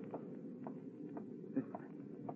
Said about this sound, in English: I hear footsteps.